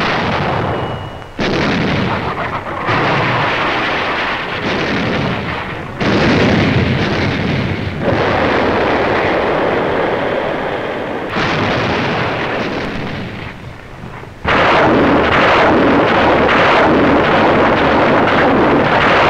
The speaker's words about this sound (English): A new type of rocket shell has been fired into the Markouf area from the sea. Our naval barrage swept the enemy beaches with brooms of fire.